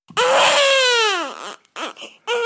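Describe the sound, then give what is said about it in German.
A newborn baby's first cry: one long loud wail that sags in pitch, followed by a few shorter catching sobs and the start of another wail. “Der erste Schrei eines Babys ist das A.”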